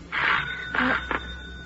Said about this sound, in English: The doorbell.